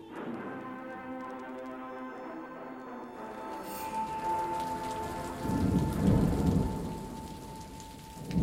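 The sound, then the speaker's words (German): A thunderstorm with heavy rain pouring steadily, while a deep rumble of thunder swells up loud partway through before fading back under the downpour. “Ob ich ertrinke, weil ein Gewitter aufkommt?”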